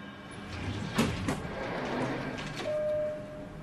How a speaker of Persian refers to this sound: در آسانسور باز میشه.